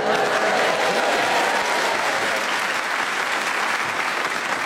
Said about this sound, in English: I'll give you a bonus point for that round of applause